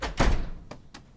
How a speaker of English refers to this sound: Oh, she's slamming doors twice.